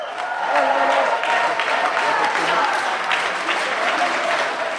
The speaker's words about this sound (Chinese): 不过今次日本法院投诉瑞士政府的是瑞士年长妇女气候保护协会的成员，他们大约有2000人左右，而大部分都是年满70岁的人士。当他们获悉打赢官司的时候，都发出了欢呼声。